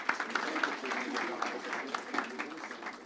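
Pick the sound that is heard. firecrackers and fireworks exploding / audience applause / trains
audience applause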